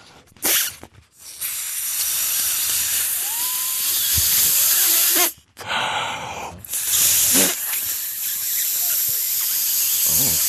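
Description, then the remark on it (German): Loud bursts of hissing air as a balloon is pumped up come in several long blasts separated by short pauses, with faint squeaky sounds in between. “Bring dir mal zum Platzen. Mein Lieber.”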